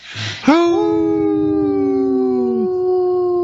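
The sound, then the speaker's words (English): A person imitates a wolf howl: one long, loud howl that swoops up quickly and holds a steady tone for a few seconds, preceded by a brief breathy rush. “this portion of the show is brought to you by Howling for Wolves, protecting wolves for future generation”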